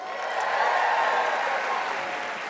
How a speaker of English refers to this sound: Thank you for the clap, and it's fine.